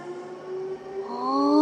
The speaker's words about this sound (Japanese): ああ、電車だ。本当に走ってる。これで遠くまで出かけられるなんて本当にすごいよね。